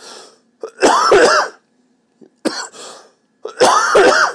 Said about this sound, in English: This is what happens when I talk a lot. It tends to make me cough. That's why I've not been talking at work too much, because the more I talk, the more I want to do this.